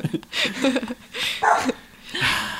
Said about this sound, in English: Gonna have to do something about this dog. Like, it's not even barking at anything. It's looking at the door where nothing is happening. Barking towards it.